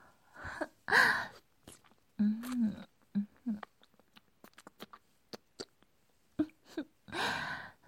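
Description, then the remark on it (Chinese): Heavy, breathy exhalations come in loud bursts at the start and end, with a low voiced groan and scattered soft clicks and mouth noises in between. Fairly loud. “看你喘的”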